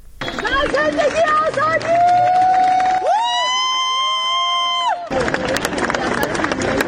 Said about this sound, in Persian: و بر اساس ویدیوهای منتشر شده در شبکه‌های اجتماعی، جعفر پناهی دو روز پس از دریافت جایزه نخل طلای جشنواره فیلم کن بامداد امروز وارد فرودگاه تهران شد و مورد تشویق مردم حاضر در آنجا قرار گرفت.